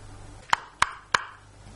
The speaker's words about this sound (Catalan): Enfilant-se l'um sobre l'altre pel marc humit de la finestra, els pobres trapelles van picar tímidament a la finestra amb el dit petit.